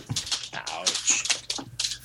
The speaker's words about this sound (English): That sounds like a very happy dog. Yes, it does. Well, they'll be happier in about 20 seconds when there's actual food in their bowls. Right now, they're just doing that, oh boy, oh boy, oh boy, food coming dance.